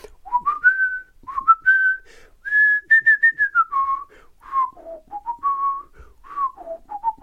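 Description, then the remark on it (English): Someone whistles the Song of Storms melody from the video game Ocarina of Time alone, a clear tune of rising and falling notes in a steady, lilting rhythm, held notes mixed with quick runs, with no talking over it. “Ocarina of Time, Song of Storms in particular. Anybody know? Anybody hear what I'm putting out there?”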